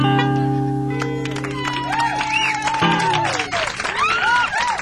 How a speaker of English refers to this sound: I think maybe you can keep clapping along if you want. You did that real well.